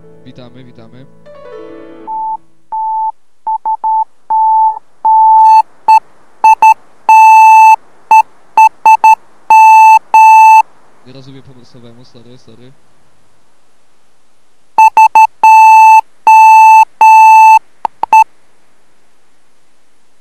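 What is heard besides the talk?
morse code beeps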